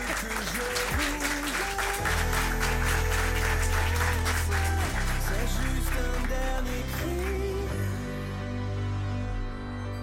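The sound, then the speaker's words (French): An audience applauds Geneviève de Fontenay for a correct answer on a quiz, clapping steadily and loudly for about ten seconds while a musical jingle plays underneath, with no one speaking. “Bonne réponse de Geneviève de Fontenay, on l'applaudit.”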